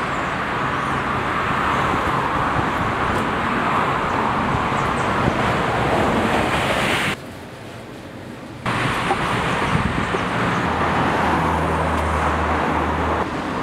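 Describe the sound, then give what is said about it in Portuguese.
A woman drives off in the speaker's car, with a steady, loud roar of engine and road noise that briefly drops to a quieter hum midway before returning. No one speaks. “A mina saiu com o meu carro, parceiro.”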